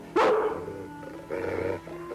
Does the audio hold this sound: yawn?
no